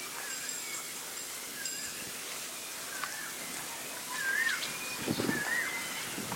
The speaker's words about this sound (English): So, cuckoos are singing.